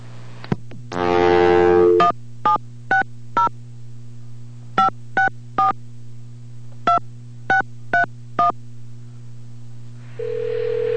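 A phone number is dialed to call back a caller: a brief burst of line tone, then about a dozen short touch-tone beeps in uneven clusters over a steady low hum, ending as a new tone starts on the line.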